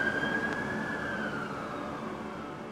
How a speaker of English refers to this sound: And just maybe 30, 40 seconds later, the cops just went whizzing by with their sirens on.